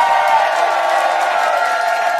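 A crowd cheers and claps steadily, a loud, sustained wash of applause with scattered whoops, holding at an even level for a couple of seconds without any talking.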